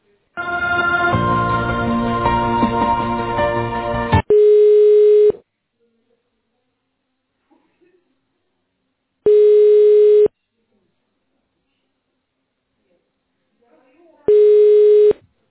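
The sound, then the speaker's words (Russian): A telephone ringback tone as a dropped call to Petersburg is redialed: three steady, mid-pitched one-second beeps spaced about four seconds apart, following a few seconds of dense, busy sound at the start. No one speaks. “можно еще на Петербург перезвонить? Да, да, сорвался, да, звонок сейчас.”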